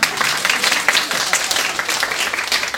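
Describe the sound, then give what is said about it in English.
A crowd applauds steadily, many hands clapping in a dense, sustained wash of crisp, bright claps at an even loudness throughout. “Pause for audience applause.”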